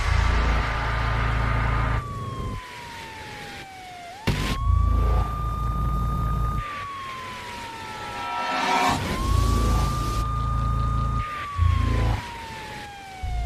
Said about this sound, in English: Okay, in the distance, you can hear the sound of sirens. And this, rather than like one, this is like multiple sirens.